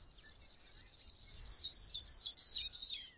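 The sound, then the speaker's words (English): A pipit sings up in the air in cold, whipping wind with blowing sand, in continuous thin, high, rapid trills and tinkling notes, fairly faint and steady throughout, over a low rumbling background with no talking. “And during all this, a pipit was up there singing deliriously, as if it were occasion for a party.”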